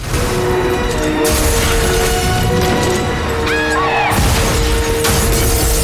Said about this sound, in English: Alex enters the boathouse as the flame ignites and the house erupts in a massive explosion.